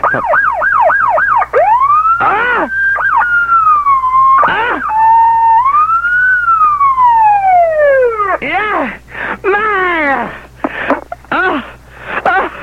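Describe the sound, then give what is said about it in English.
A voice imitates a police siren over the phone: quick rising-and-falling yelps, then a long wavering wail, then rapid bursts of sweeping whoops. It is loud and continuous, with no talking. “Are you in some place now where you can give me sirene?”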